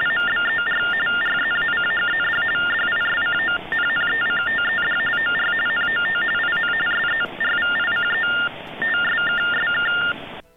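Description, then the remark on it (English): Telephone-line TTY tones on a disconnected-number recording: a steady, rapid warble flipping between two mid-high pitches, running almost continuously for ten seconds with a few brief pauses, loud and thin over faint line hiss. “I'm going to keep that disconnected recording in there just because of those cool TTY tones.”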